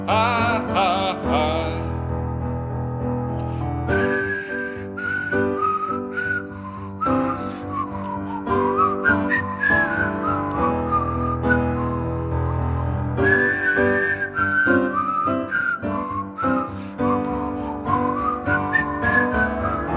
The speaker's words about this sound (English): It's whistling time.